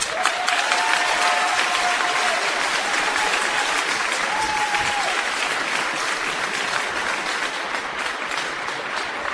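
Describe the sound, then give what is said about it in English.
Sustained applause from a large audience welcoming the class of 2022 salutatorian, a dense steady wash of clapping that stays loud for the full stretch, with a few faint whistles or cheers mixed in. “Please help me in joining a round of applause for welcoming class of 2022 salutatorian”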